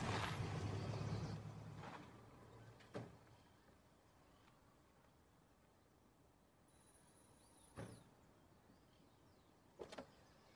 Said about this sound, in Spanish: Ariel baja del auto, camina hasta las rejas de la casa y ve cómo Anita se acerca lentamente.